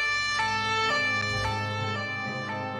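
A police car siren wails continuously in a bright, buzzy tone with rhythmic pitch shifts, its volume easing slightly as the car drives off with its rotating light on. No one speaks.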